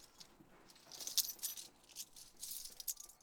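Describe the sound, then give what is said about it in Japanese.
Metallic keys jangle in short, bright bursts, shaken a few times over several seconds, with no voices. “今日は鍵ある？”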